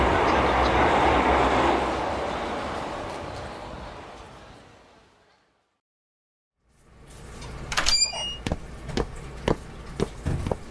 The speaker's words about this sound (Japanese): さあ、龍馬さん、電車来ましたよ、乗りましょう。